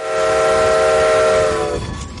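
steam locomotive train running

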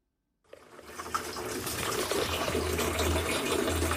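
water running

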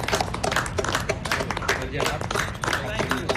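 people clapping hands

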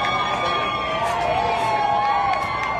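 crowd cheering

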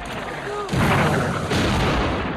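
cannon fire

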